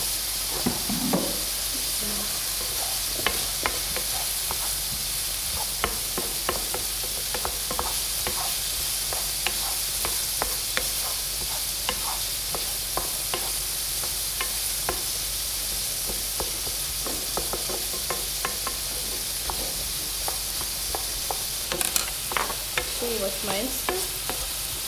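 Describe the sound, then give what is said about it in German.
Food crackles and sizzles steadily in a hot pan as the moisture in it crackles, a dense bed of hiss dotted with sharp pops and occasional scraping stirs, continuous with no one talking. “Das knistert schön. Die Feuchtigkeit da drin.”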